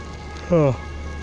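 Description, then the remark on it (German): A soft, steady hiss of light drizzle fills the background throughout, briefly interrupted midway by a short voiced sound that falls in pitch. “Ja, und gerade regnet es.”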